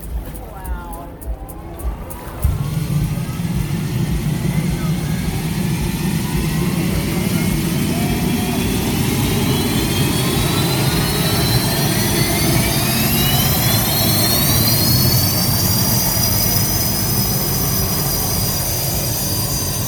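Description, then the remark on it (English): The Oberto hydroplane race boat goes out on the course for a test run, its turbine engine roaring to life and spooling up as it gets on plane. Its high whine climbs steadily in pitch over a loud, sustained low rumble that stays powerful. “I recorded the boat going out on the course, spooling up its engine as it got on plane.”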